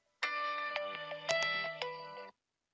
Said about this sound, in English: Here I am. I've got my phone on screen. I'm expect a call, and there it is, just like clockwork.